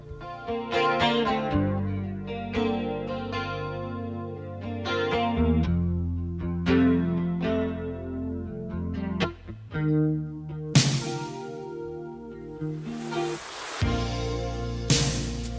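Slow rock ballad intro in the style of the 1980s: a chorus-drenched electric guitar rings out sustained chords over a steady groove, with cymbals washing in toward the end. No voices.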